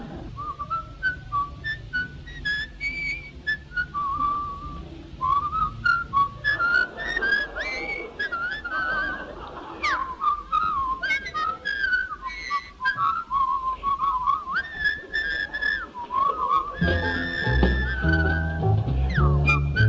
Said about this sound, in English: And now, as we can't think of any more jokes, we're all going to whistle for a bit.